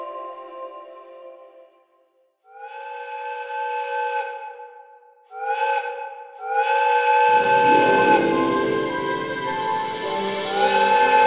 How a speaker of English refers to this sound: The whistle blew loudly, piercing the English countryside, as the 5 o'clock express from Harrogate pulled into Leeds Station.